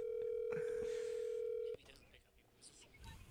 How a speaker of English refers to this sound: Currently ringing the phone.